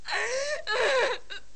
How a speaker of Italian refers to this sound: Non si sente volare una mosca. Solo il pianto sommesso di Lulu, prima soffocato e poi sempre più forte, rompe il silenzio.